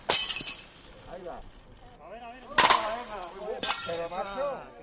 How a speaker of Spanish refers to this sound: Estrellando vajilla contra el suelo para simbolizar que son los que pagan los platos rotos de esta crisis.